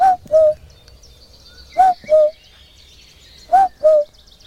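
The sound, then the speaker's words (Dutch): A person imitates a cuckoo at the edge of the Amsterdam water-supply dunes in the Netherlands: three clear two-note 'cuck-oo' calls, each falling in pitch, spaced a couple of seconds apart, with faint birdsong chirping in the background outdoors. “Ja, dat was ik, die de koekoek nadeed.”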